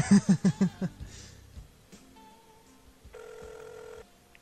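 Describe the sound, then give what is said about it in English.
A burst of laughter gives way to a quiet line, then a single steady electronic ringback tone sounds for about a second, thin and moderately loud, as a phone call is placed. “So we have Madhead on the phone. Let's see if he has a ringback tone, too.”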